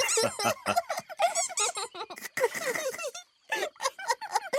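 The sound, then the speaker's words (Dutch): A rubber bath duck squeaks over and over in quick, uneven bursts, loud, with a brief pause before another flurry of high, wheezy squeaks. “We hebben een badeend. It says squeak!”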